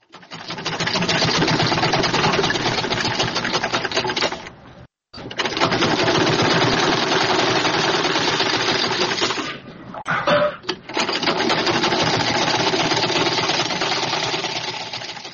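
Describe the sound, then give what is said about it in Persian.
A sewing machine used for tailoring runs steadily with a fast, even mechanical clatter, stopping briefly once and faltering again before carrying on to the end. No one speaks. “ماشین خیاطی، قیچی، متر، سوزن و تار، پنسل، قلم رنگه و یا تباشیر از وسایل ضروری خیاطی محسوب می شوند.”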